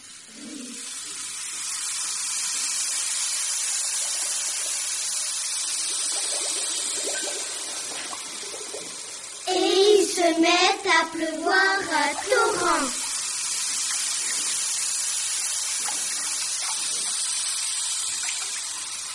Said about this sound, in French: Se met à pleuvoir à torrents. Il pleut tant et tant que les rivières débordent. Le moindre trou se gorge d'eau.